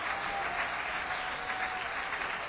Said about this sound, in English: God is still a miracle worker. Give the Lord the hand clap of praise.